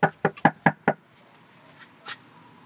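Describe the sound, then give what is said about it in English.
Five quick, firm knocks rap on a front door in a steady rhythm, loud, as a volunteer canvasses door to door for a gubernatorial campaign on a blistering hot Saturday afternoon in Austin, Texas, followed by a quiet pause with a faint, brief sound near the end. “knocking on doors for Democratic nominee Beto O'Rourke's gubernatorial campaign”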